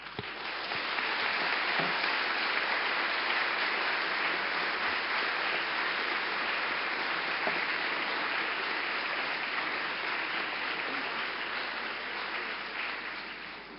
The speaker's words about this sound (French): Oui, je crois que je peux me faire l'écho d'ailleurs de ces applaudissements pour dire que nous vous remercions très chaleureusement de cette introduction détaillée sur l'organisation, le fonctionnement de la justice néerlandaise